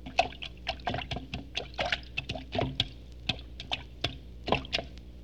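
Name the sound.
tap dancing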